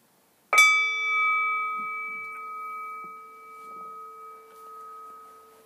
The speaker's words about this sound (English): We're going to do a guided meditation on this now. Finding a way to sit, returning into a meditative posture. Allowing the eyes to close. And we'll start and end with the bell.